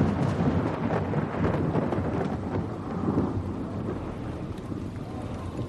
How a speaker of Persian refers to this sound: بعد 20 سال هوای شهر ابری شد. آسمان شروع کرد به باریدن.